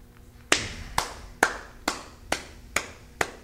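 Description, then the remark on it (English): Seven sharp hand claps, clapping out the regular stepping beat of a compas, land in a steady, even rhythm, each crisp and bright with a quick decay. No one talks over them. “It's a regular stepping beat. Well, you know? Just clap it out.”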